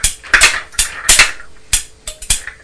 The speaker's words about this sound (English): You're just lifting the trailer part of the dumper truck up and down, aren't you? And making a noise.